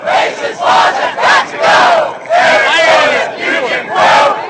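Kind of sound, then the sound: crowd, protest crowd chanting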